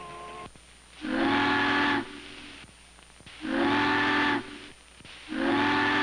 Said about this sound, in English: Bob listens for her to signal for the bridge. Three long whistles. The bridge tender knows that the ship is turning for the bridge.